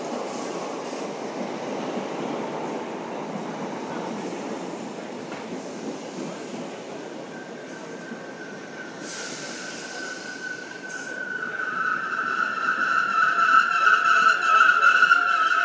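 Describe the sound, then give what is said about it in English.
A Southwest train service train rumbles steadily as it pulls into a station, wheels grinding on the rails, then a high metallic brake squeal rises and grows louder as it slows to a stop. “Alright, I think we might have a train.”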